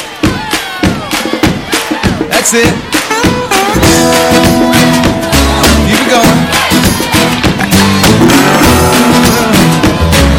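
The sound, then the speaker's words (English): A group of kids at Vacation Bible School stomps and claps together in a steady, driving rhythm, loud. A voice calls out encouragement briefly, and sustained musical tones join partway through. “You guys stomp your feet like that? And let's clap together.”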